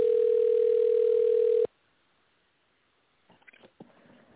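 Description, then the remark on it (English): A loud, steady telephone ringback tone of an outgoing call to a guest on a Blog Talk Radio show hums for over a second and a half, then cuts off abruptly into near silence, followed by a few faint clicks and rustles on the line. “It's ringing right now.”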